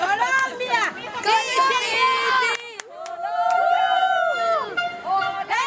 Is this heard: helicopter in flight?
no